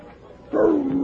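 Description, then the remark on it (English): After a brief quiet stretch, a dog lets out one loud, drawn-out bark, its pitch sagging slightly as it trails off. No one speaks. “I don't like dogs.”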